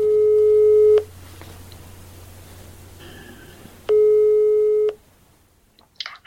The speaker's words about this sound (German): Also setze ich meinen ersten Plan um und wähle eine Telefonnummer.